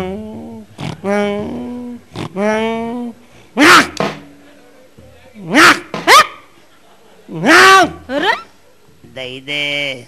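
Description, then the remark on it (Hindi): A man's voice imitates a dog barking, letting out about four loud, sharp barks in uneven bursts between stretches of voiced sounds. “तो कुत्ता मालूम क्या कर रहा? क्या कर रहा?”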